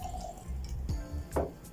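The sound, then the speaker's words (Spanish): Grapefruit juice is poured into a glass, a short burst of splashing and gurgling liquid with a few wet drips and clinks, no voices. “el juguito de toronja”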